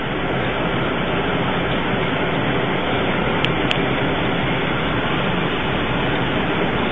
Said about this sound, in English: Bring in all the sounds of Ohio with you. Yeah, we get to hear the car running. Yeah. The wind outside.